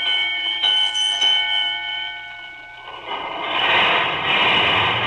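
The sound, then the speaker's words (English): Sirens of two departing fire engines blare in steady, high layered tones, then a loud rushing roar of the engines rises and swells beneath them. No one speaks. “There goes the father engine. And there goes the mother engine.”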